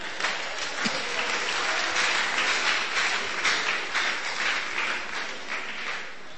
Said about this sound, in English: Okay, clap for them.